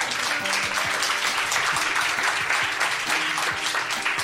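Steady audience applause at a live show in Paris fills the whole stretch, many hands clapping at once in a dense, continuous patter with no speech over it.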